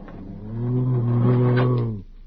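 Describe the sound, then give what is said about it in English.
A person voices a single low, sustained growl, pretending to be a bat, lasting about a second and a half, steady and fairly loud, with no other talking around it. “Bats don't growl, they squeak.”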